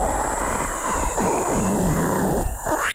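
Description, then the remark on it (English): A steady, loud hiss of an aerosol whipped cream can spraying for about three seconds, with a sputtering, gurgling texture underneath, before it cuts off abruptly. “It's much better taking the aerosol can full of whipped cream and shooting it”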